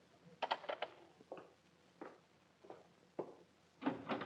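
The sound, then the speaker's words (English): A door is opened for a visitor: a quiet series of short clicks and soft knocks from the latch and handle, spaced irregularly over a few seconds, with no voices. “Now, there's the door.”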